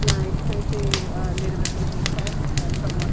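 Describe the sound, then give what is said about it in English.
A bonfire crackles at a Women's Center event with s'mores, sharp irregular pops snapping over a steady low roar of flame, with faint murmuring voices in the background. “I love bonfires.”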